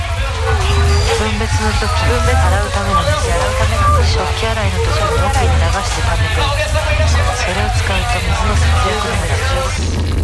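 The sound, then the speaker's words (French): A dense crowd hubbub of many overlapping voices in the basement food section of a large shopping centre in Yokohama, Japan. Louder raised calls from vendors selling fish, meat, vegetables and fruit cut through over a steady low rumble. The din stays constant and busy throughout, like a bustling market. “Il y a énorme centre commercial et souvent au Japon, au sous-sol, il y a toujours les parties où on vend de la nourriture et c'est pour ça qu'on entend des criards, crieurs qui vendent du poisson, la viande ou les légumes et les fruits.”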